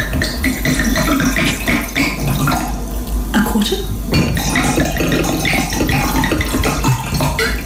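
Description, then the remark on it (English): Wine pours steadily into a glass in a continuous gurgling splash with a faint clink, as a mom uses the glass of wine to teach fractions, while a voice briefly speaks over it. “So she decided to use a glass of wine.”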